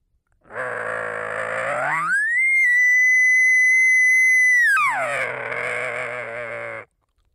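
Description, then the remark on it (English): A man-made elk bugle blown on a latex diaphragm call: a raspy, growling low note rises into a long, pure high whistle lasting a couple of seconds, then drops back to a gravelly growl before cutting off. “That's really all there is to a great sounding bugle.”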